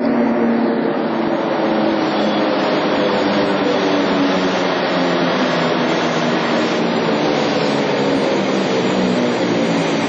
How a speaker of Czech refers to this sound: Kompozicija Beovoza, beogradske prigradske železnice, pristala je na jedan od perona uređenog i jako osvetljenog prokopa, buduće železničke stanice Beograd Centar.